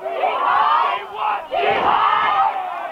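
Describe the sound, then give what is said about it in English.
A loud, sustained roar of a cheering crowd at a football game, swelling and surging in waves with a brief dip in the middle before building again, after an unsportsmanlike penalty gives the Wolves an automatic first down at the 35-yard line. “The crowd is electric right now.”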